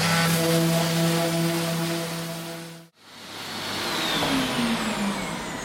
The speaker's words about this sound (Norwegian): Skal vi bare pusse litt, det kommer til å bråke litt.